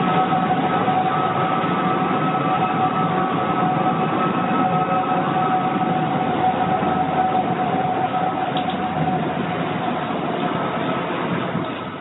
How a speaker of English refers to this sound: Well, then last week in the middle of the night, the neighbor says the tower began whistling again with a slightly different two-toned cry, calling it unmistakable and very chilling. So here it is, and you can judge for yourself.